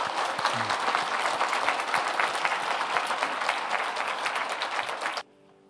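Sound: audience applauding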